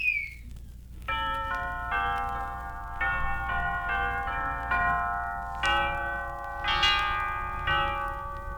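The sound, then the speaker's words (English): A sequence of clear, ringing time-signal chime tones from a Melbourne radio station plays alone, each note struck in a steady melodic pattern and left to sustain and overlap. “we will now give you the chimes.”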